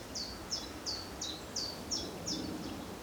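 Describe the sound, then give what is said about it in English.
A bird repeats a short, high chirping call about seven times in a steady rhythm, over a soft woodland background hiss with no one speaking. “I don't know what bird that is.”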